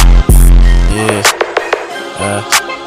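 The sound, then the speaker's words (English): A loud instrumental beat with deep booming bass notes and sharp percussive hits landing in a steady rhythm, with no one talking over it. “Echo, turn this beat off if I ain't tripping on it.”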